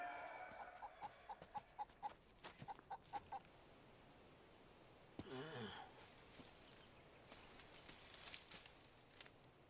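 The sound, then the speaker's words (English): A chicken pecks in a quick run of about a dozen sharp taps, then goes quiet before soft clucking and scattered rustling noises follow. “The calculating cape on, the pecking Pythagorean.”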